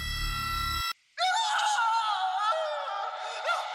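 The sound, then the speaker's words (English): A short low buzzing drone cuts off, and after a brief silence a loud, sustained high-pitched scream wavers on for several seconds, piercing, with no talking. “I was awoken by a scream that might have come from me.”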